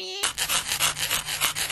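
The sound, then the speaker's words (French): Harsh scratching on a car roof, a run of rough rasping strokes in a quick, uneven rhythm that starts abruptly and stays loud with no voices. “Comme si ça grattait sur le toit de la voiture.”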